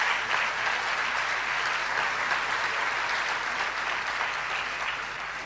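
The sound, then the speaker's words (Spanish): An audience applauds steadily, a dense wash of many hands clapping at a constant loudness for several seconds, with no voices rising above it. “Y eso realmente merece un aplauso.”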